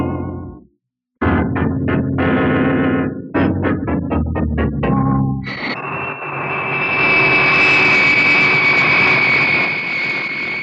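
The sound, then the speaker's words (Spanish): A short burst of dramatic musical chords gives way to the steady, loud roar of a luxury private jet, the Albatros, flying south, its high engine whine droning continuously to the end. “De su lujoso jet particular, el Albatros, que vuela ya rumbo al sur, Miklos Rogasis hace risueños cálculos junto a su lugarteniente, el sanguinario Chatras.”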